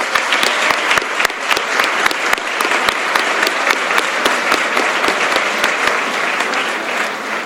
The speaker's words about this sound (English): As a result of all of the donations that we have received, we have raised a massive 33,000 euros. So give yourselves a big round of applause for that.